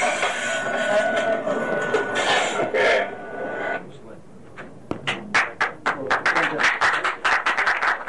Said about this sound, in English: Wow, man, the sounds, totally disgusting, but what's amazing is the applause that he receives.